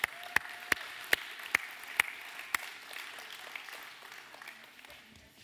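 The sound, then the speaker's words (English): A church audience applauds as tithes and offerings are brought up to the buckets: a steady wash of many hands, with several loud, evenly spaced claps cutting through at first, then the clapping gradually thins and fades. “So with a big round of applause, I want you to bring your tithes and offerings up here to the buckets.”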